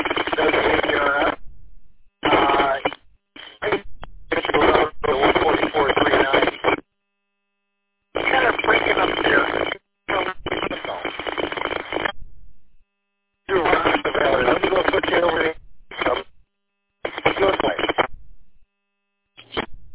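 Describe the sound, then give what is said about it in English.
A two-way radio keys up again and again, sending bursts of thin, band-limited hiss and garbled transmission noise that cut off abruptly, separated by short silent gaps. “If I key up the thing to my radio,”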